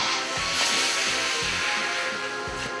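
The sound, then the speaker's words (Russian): Children blow out a soft, steady, breathy whoosh, imitating a warm, gentle spring wind. The airy hiss holds continuously for a few seconds, with faint low puffs pulsing underneath. “Ветер весны теплый, ласковый, нежный.”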